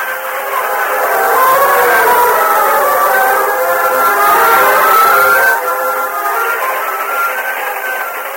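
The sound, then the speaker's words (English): A train moving off along moonlit tracks with a long, wavering whistle held over a steady rumble, the sound easing slightly in loudness toward the end as it draws away into the distance. No voices. “Cliff and Gopher stood beside the moonlit tracks, watching the train disappear in the distance”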